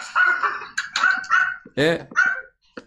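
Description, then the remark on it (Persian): A dog barks several times in quick, uneven bursts, loud, joining in behind raised human voices that overlap the barking. “یه سگم داره پشتش چیز میکنه، همراهی میکنه.”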